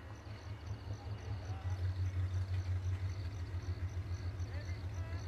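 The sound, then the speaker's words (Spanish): A car engine idles with a low, steady rumble that pulses faintly, the car stopped on a remote dirt road beside a metal fence. It holds at an even, moderate loudness throughout with no other distinct sounds. “Detienen el coche en un apartado camino de tierra junto a una valla metálica.”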